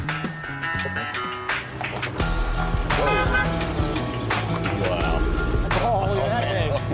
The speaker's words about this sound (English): You guys heard about this? Yeah, that's a Hellcat, man. Hellcat. For muscle car lovers, this is the newest thing from Dodge.